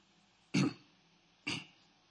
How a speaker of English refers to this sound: I'm actually not coughing, really. It's a fake cough.